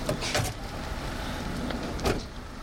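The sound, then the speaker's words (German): A line of cars carrying a trade-union protest group sets off together at dawn for the hinterland of Almería, with a steady engine and road rumble and a few short mechanical clunks, no one talking. “Eine Schlange von Autos setzt sich in Bewegung.”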